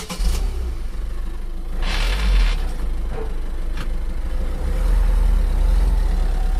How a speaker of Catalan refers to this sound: Sí, jo arribo fins a Vic cada dia, surto des d'aquí, de l'empresa que treballo aquí, amb el camió, i vaig fins a Vic cada dia, quatre cops anar i tornar.